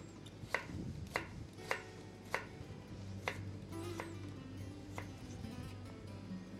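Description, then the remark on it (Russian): A knife chops carrot by hand into thin julienne strips for a salad, about eight sharp, crisp strikes on a cutting board at a steady, unhurried pace over a low background hum, with no talking. “В этот салатик мы добавляем морковку. Можно ее натереть на терке, но мы сегодня уж нарежем руками.”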